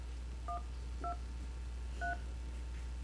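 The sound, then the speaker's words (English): Three short dual-pitched touch tones from a phone keypad, beeping at uneven intervals over a low steady hum, with no voices present. “Now, a lot of phone apps, and I thought Hangouts did, a lot of phone apps will let you go to a dial pad.”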